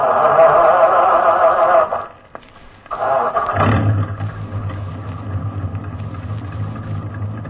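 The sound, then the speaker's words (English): A heavy military truck engine grinds loudly as it cranks, pauses briefly, then catches and settles into a deep, steady rumbling run, with no voices, as the truck is started to pull in behind a passing convoy. “Start your engine, Sergeant.”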